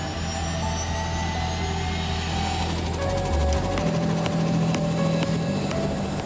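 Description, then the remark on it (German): A rescue helicopter flying back to its base after bringing a patient to the Inselspital, its steady low rotor drone and whining turbine tones droning on loudly, with a faint rhythmic chop and a shift in pitch partway through. No talking. “Jetzt fliegen wir zurück auf die Basis.”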